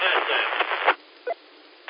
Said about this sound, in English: The audio came up, the treble came up, but you got a lot of frying noise in there.